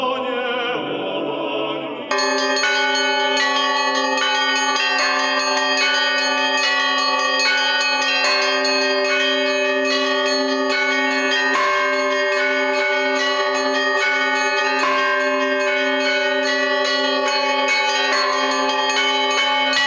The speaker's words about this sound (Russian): Во время обучения в духовном училище получил благословение священника осваивать колокольный звон. Да и у самого было огромное желание понять, почувствовать и ощутить, как заставить колокола заговорить.